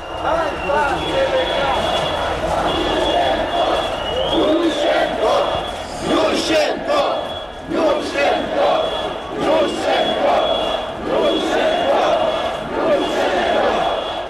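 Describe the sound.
A large protest crowd outside an opened window shouts continuously, many voices blending into a loud, rolling roar with surges of chanting, and a thin steady high tone running through the whole stretch.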